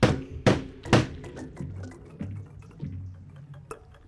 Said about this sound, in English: I'm going to get rid of the old coffee grounds from the espresso handle by hitting it against this knock box.